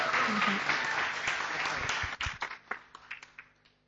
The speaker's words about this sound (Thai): Let's give him a warm rainbow welcome. ให้เราปรบมือต้อนรับอาจารย์อย่างอบอุ่นนะครับ